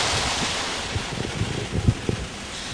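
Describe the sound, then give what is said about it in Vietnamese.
An audience applauds in a hall, a steady, even wash of many hands clapping that holds for a few seconds, with a few duller low thumps mixed in and no talking. “Xin người đặt câu hỏi và tất cả các vị trong hội trường dành tràng pháo tay để lắng nghe sự chia sẻ của Thượng tọa”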